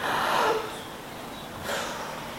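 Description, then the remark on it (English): Two forceful, hissing breaths pushed through the nose, fairly loud, about a second apart, with no talking, a deliberate demonstration of forced yogic breathing. “This way of breathing is artificial, isn't it? Is that the way we naturally breathe?”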